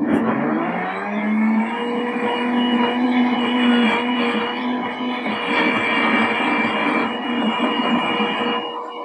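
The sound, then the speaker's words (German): A high-performance blender runs nonstop, its motor spinning up in the first moment and then holding a loud, steady whine and roar for the whole stretch, with no talking. “Erwähnen möchte ich, also ein Hochleistungsmixer macht das relativ schnell.”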